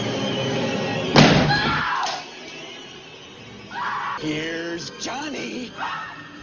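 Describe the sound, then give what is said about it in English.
A single heavy, splintering blow of an axe into a wooden door in a film scene with Jack Nicholson, followed by frantic screaming and agitated shouting voices over a dull, tense background. “There's Johnny, Jack Nicholson, and that's one instance where you can shoot through a door if somebody's chopping through, planning on killing you, and they're saying it.”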